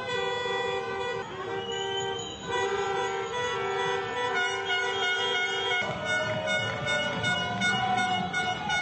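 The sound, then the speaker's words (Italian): Many car horns blare at once in Milan, Italy, as Italians celebrate their national football team reaching the semifinal, a continuous, overlapping chorus of steady, sustained tones, some held long and others shifting pitch, over a constant rumble of street noise. “Questa è la gioia, sono rumori, suoni, voci, gioia che arriva da Milano, ma anche a Roma, nelle maggiori città italiane.”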